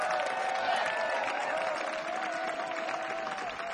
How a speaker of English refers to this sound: Another big round of applause for the band up here, if you would, please.